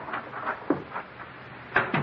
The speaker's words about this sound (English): Mr. Keene, someone just come into the house. I heard the front door close.